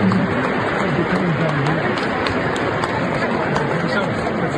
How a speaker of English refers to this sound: Applause for Pope Francis.